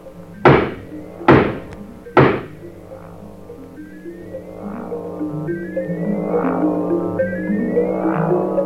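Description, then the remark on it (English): Three loud, heavy knocks on the wooden door of a run-down house with broken windows, fence and gate, spaced about a second apart, then a steady droning hum with sustained tones and no voices. “Knock again.”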